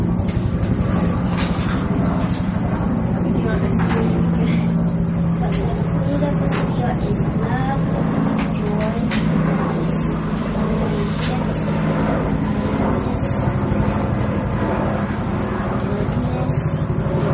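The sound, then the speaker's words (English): A helicopter drones overhead in a steady, loud, low rumble with a constant engine hum that holds for the whole stretch, while muffled voices sit underneath. “We're going to hear you with that helicopter going overhead.”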